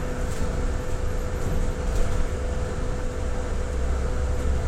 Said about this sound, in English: Anyway, the point of the last boo, which was silent, was to illustrate how noisy the new buses are that we have. That whining noise, and I'm not talking about me, that's a whinge, FYI. That whining noise all the time you're on the bus.